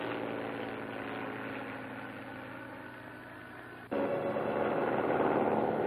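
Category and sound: vehicle, airplane engine approaching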